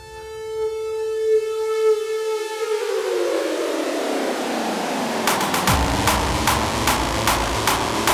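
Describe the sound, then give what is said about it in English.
A steady, sustained pitched tone with a slightly buzzy edge holds for about three seconds, then dissolves into a swelling rumbling noise that ends in a series of sharp, regular pulses. “Listen as we vibrate 440 times a second.”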